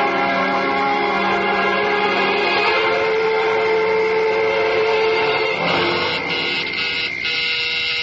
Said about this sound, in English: I'll do you no good ringing the bell, lady.